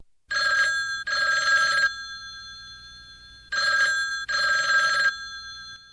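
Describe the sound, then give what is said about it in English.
A telephone bell rings in two loud double bursts separated by a short silence, a bright metallic jangle with no voices, opening a 1966 song. “And it just seems like a perfect way to start off a bunch of songs about phones.”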